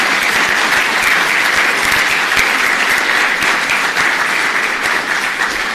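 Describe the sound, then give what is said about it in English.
Steady, dense applause from an audience thanking the hotel staff, many hands clapping continuously at a loud, even level for several seconds with no talking over it. “I'm sure they'll watch the video and hear your applause later.”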